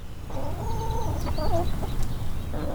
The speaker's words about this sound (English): Four chickens snack on a treat of dried mealworms, which Katie Hitt shakes into the run of their coop